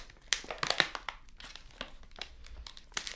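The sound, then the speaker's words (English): A bag of oat milk chocolate truffles being opened with bursts of sharp, papery crinkling, irregular and fairly loud, with louder crackles near the start and end and no talking. “All right, I'm opening the bag.”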